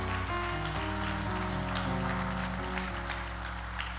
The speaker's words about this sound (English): So let's give Pastor a big hand clap.